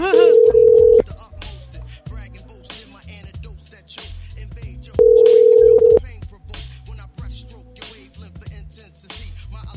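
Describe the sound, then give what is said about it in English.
A phone's ringing tone on an outgoing call, later forwarded to TELUS Mobility, sounds twice, each a loud, steady, mid-low buzz lasting about a second, separated by a pause of several seconds, over a busy, quieter background of music-like sound. “We'll call her instead.”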